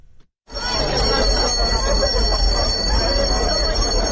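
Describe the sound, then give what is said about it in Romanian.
A school bell rings loudly and continuously with a bright metallic tone for the start of the school year at the Gheorghe Asachi Theoretical Lyceum in Chișinău, Moldova, starting abruptly and lasting throughout, over a background of crowd chatter. “Elevii, dar mai ales părinții, au fost copleșiți de emoții astăzi când a răsunat clopoțelul de la început de an școlar.”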